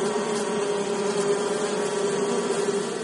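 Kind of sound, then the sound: insect, bee buzzing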